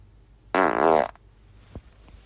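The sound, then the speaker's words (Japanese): A small fart rips out, a buzzy, wavering half-second burst that fades into near silence, followed by a faint soft tap. “ちょっとおならが出そうなので出します。”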